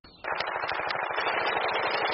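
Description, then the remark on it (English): Rapid, continuous machine gun fire in a first-person shooter video game, a dense stream of sharp bursts repeating quickly and loudly for about two seconds with no one talking. “Eating snacks and playing first-person shooters with your breath.”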